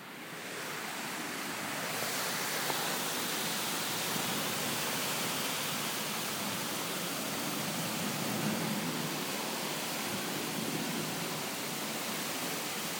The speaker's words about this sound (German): Ich wollte doch unbedingt böse Gewitter aufnehmen und in Offenbach ist gerade ein Starkgewitter. Und ich dachte letztens schon, ich habe eine extreme Aufnahme mit richtigem Starkregen aufgenommen, aber hört euch das mal an.